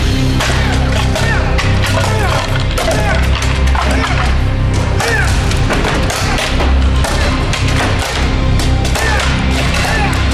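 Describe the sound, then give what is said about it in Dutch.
Rapid, loud cracking thuds follow one another almost nonstop as an American man smashes toilet seats with his head, forceful, with voices and crowd noise running underneath. “Want de Amerikaan Kevin Shelley die gaat gewoon je bril met zijn kop gewoon kapot slaan.”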